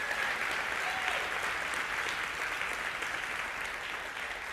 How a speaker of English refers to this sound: Would you give them a great round of applause?